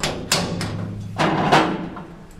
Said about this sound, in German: Massive Metallbolzen entriegeln die Tür, die fast 5 Tonnen wiegt. Um sie zu öffnen, müssen 2 Beschäftigte mit Zugangscodes bzw. Schlüsseln anwesend sein.